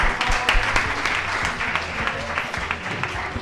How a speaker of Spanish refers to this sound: Un aplauso para ellos.